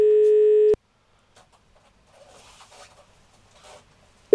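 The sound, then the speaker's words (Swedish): A loud, steady ringing tone of an outgoing phone call to a saleswoman at a clothing store sounds for under a second, then near silence with faint chirpy background sounds, before the next ring tone begins at the end. “Och nu när vi ringer då ska vi se hur snäll hon är.”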